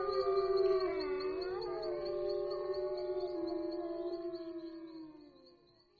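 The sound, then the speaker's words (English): Several wolves howl together in a long, overlapping chorus on a snowy, moonlit night in the northern woods, their drawn-out wavering voices sliding up and down in pitch before trailing off at the end. “The animal is a wolf.”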